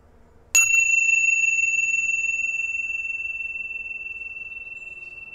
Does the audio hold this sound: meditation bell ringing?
yes